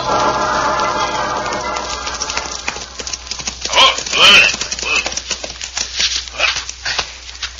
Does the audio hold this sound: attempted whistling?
no